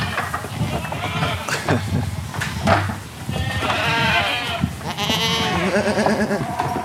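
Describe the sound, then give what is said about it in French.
Several calm goats bleat in overlapping, wavering, jerky calls, choppier and softer than sheep, steady over a busy background, with a few quieter bleats mixed in and no clear talking. “C'est pas le même bêlement que la brebis. Ah bah non, c'est plus saccadé.”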